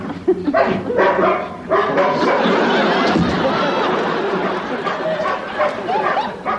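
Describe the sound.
A dog barks and yaps repeatedly in a busy burst of sound, mixed with overlapping human voices and chatter throughout.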